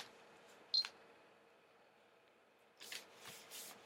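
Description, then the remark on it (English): A Samsung Galaxy S3 phone camera running Jelly Bean 4.1.1 photographs a piece of paper: a brief electronic beep and tick, then after a quiet pause a quick cluster of crisp camera shutter clicks and mechanical clatter, with no one speaking. “shutter. I've got my focusing. It is focusing.”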